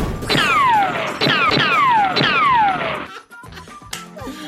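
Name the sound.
gunshot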